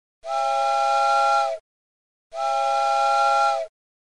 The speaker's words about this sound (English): Good timing, given that the locomotive is blowing its steam whistle. We're arriving.